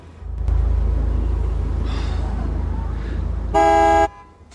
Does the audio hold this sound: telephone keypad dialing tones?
no